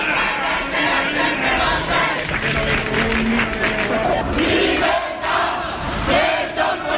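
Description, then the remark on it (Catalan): A large crowd of protesters marching through central Madrid, demanding freedom and amnesty for prisoners, shouts slogans together, such as 'Madrid is with the Catalan people'. A loud, dense roar of many voices with rhythmic chanted bursts rising and falling throughout, punctuated by scattered claps. “Crits als que s'hi sumaven eslògans com Madrid està al costat del poble català.”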